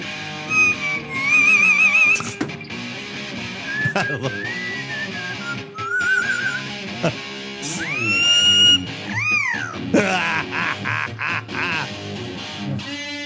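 A pet bird sings along to a loud rock song, its warbling, whistle-like squawks and wavering calls rising over the music in repeated bursts.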